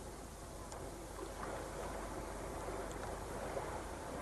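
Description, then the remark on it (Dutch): The sea near an apparently uninhabited house called the Golfbreker, a steady, broad wash of surf rolling on continuously, muffled, with a faint low rumble underneath and no voices. “Dat is de zee die je hoort. Die kan niet zo ver weg zijn, hè?”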